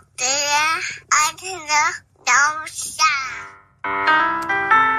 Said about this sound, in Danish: Det er vores intro, det er for at skabe det. Altså, det kommer lidt klaver, men det er simpelthen for at skabe den her lounge-stemning, den her hyggestemning.